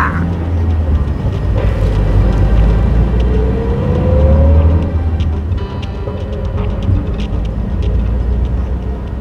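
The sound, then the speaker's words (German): A car engine rumbles loudly, revving up as the vehicle pulls away and drives off north toward Bolton, with a steady low drone of motor noise throughout and no voices. “Während Bruce den Wagen in die Spur Richtung Norden lenkte”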